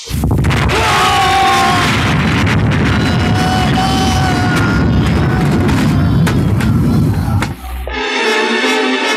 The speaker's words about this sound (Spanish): La casa se estremece con explosión. Una llamarada envuelve la bóveda de seguridad, produciendo grandes agujeros en las paredes metálicas. Una nube de humo envuelve el salón contiguo a la bóveda